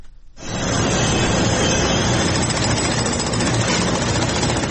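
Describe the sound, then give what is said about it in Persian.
Rescue workers' heavy machinery and tools roar steadily after a brief quiet start, cutting, digging and drilling after the earthquake in northern Syria and southern Turkey. A dense mix of low engine rumble and harsh mechanical rattling, like power tools and drilling, with no voices. “تقریبا پنج شبانه روز است که صدای ماشین‌آلات و ابزار نیروهای امدادرسان در شمال سوریه و جنوب ترکیه قطع نمی‌شود.”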